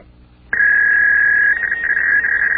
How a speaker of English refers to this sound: Listen to that. It's a fax machine.